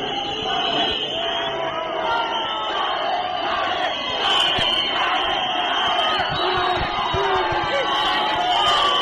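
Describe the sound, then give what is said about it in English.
A large crowd of hundreds of Tsvangirai's supporters cheers wildly and steadily as he arrives at his party's headquarters in Harare's Central Business District, a dense roar of shouting voices with high whoops and yells rising above it, swelling louder around the middle and toward the end. “Tsvangirai arrived at his party's headquarters, located in the Central Business District, where hundreds of his supporters greeted him with wild cheers.”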